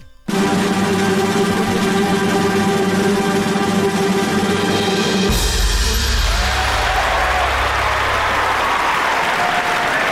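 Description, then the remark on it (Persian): Loud, steady applause from a crowd, mixed with high screams and cheering for the Radio League, a radio football league, filling about ten seconds without a break; the roar shifts to a deeper, rougher texture halfway through. “این دست و جیغ هورا مال ریگ لیگ رادیویی بود.”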